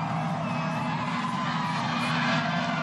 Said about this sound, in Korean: But thank you so much, New York City, for coming out. Over a million people, plenty more. 음악 소리, 환호 소리, 시민들의 뿔피리 소리가 들리십니까?